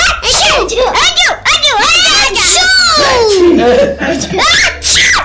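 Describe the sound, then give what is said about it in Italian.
A child's voice makes loud, exaggerated sneezing noises for several seconds as a sneezing sound effect while telling a story, a string of gasping build-ups and bursts with squealing pitch swoops, and no other sounds. “È l'effetto speciale dello starnuto, vai!”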